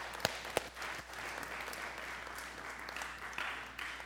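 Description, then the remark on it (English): A crowd applauding themselves in the morning, with a dense, steady wash of many hands clapping for a few seconds and a couple of sharp, louder claps standing out near the start. “You guys have been awesome this morning. Yeah, clap for yourself.”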